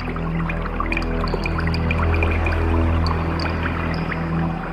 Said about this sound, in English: This sonification also draws on X-ray data from the Chandra, as well as radio data from the Very Large Array. The water drop sounds represent background stars.